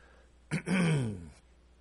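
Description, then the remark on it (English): A single throat clearing: a rough, breathy burst followed by a low, gravelly voiced rumble that slides downward and fades within about a second. “I hear some of you out there trying to encourage me to clear my throat.”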